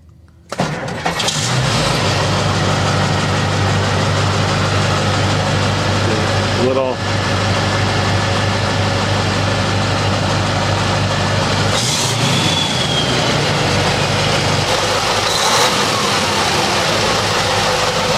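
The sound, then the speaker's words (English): A Mack Magnum truck's 998-cubic-inch V8 turbo diesel engine is cold-started: it cranks and fires up, then settles into a loud, steady rumbling idle with deep low-end throb, brief revs and clatter. “All right, this is a cold startup on Mack Magnum. 998 cubic inches of V8 turbo diesel.”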